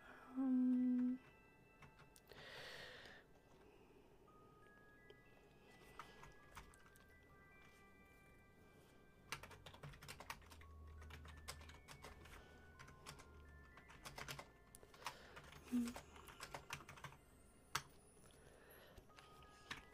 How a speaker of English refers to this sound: You guys can get a little keyboard ASMR to go with the recordings. Cause I gotta type in stuff.